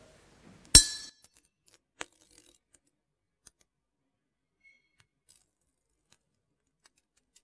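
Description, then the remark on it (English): A heated glass bottle cracks with one sharp, bright snap and a brief glassy ring after being touched with a feather dipped in ice-cold water, then a faint second tick, followed by near silence. The top of the bottle comes off neatly. “Get a nice crack on the bottle of the bottle. Top of the bottle comes off perfectly and neat.”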